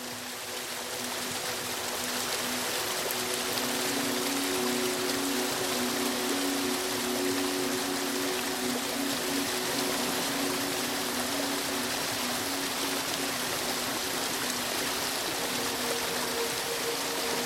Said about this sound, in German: Und dort vor dir erhebt sich ein majestätischer Wasserfall, dessen herabstürzende Wassermassen in allen Farben des Spektrums leuchten.